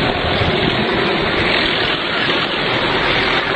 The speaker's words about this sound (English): Now that would definitely be the police chopper, because they're the ones with the spotlights going.